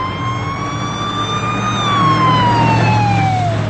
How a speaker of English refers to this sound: An ambulance races to the home.